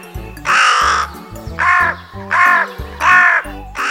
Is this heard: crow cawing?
yes